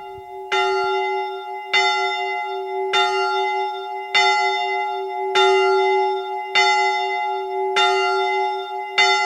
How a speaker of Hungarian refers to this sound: Gyönyörű szépen szól a küsmödi kis harang, amit hallgattunk az imént. Egy harang lábban van a két harang, a nagya és a kis harang. Ez a templom hajó mellett van.